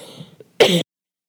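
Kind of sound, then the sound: human body sound, cough and throat clearing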